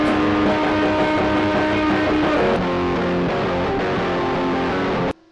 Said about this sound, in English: I hope you could spot it in there, and in the other bridge, and in an other part, you can hear the slapback effect combined with the sense amp as well.